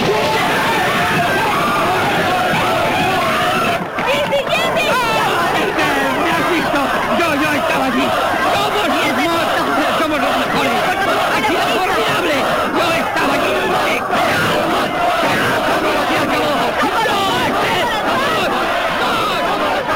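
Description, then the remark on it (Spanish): A loud, dense crowd shouts and yells continuously, many voices overlapping in a chaotic roar with no pauses, energetic throughout. “Por los gritos, también parecía un poco un vídeo de King Hamster.”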